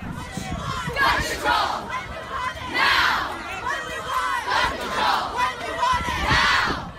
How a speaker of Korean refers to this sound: 네, 14일 이곳 워싱턴 DC 연방의사당 근처에 모인 학생들이 구호를 외치는 소리가 나오는데요. 학생들은 Gun Control Now, 즉 총기 규제를 당장 시행하라라는 구호를 외치고 있습니다.